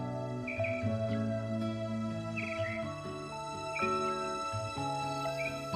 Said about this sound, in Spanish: desconectando con ese sonido de jardín, de pajaritos